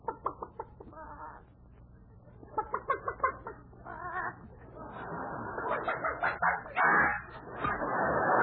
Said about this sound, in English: look at the hen sitting on the nest.